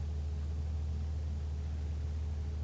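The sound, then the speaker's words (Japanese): A steady, low engine rumble with a constant road-noise hiss, like riding inside a moving car, holding an even level throughout with no voices. “俺の車は進んでいる。ある一点を目指して進んでいる。”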